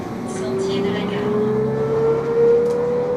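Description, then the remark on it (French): Inside a city bus in Neuchâtel, a steady low engine drone fills the cabin while a tonal whine climbs slowly in pitch as it accelerates, with a few brief rattles and faint background voices. “est allé faire un tour dans les bus neuchâtelois.”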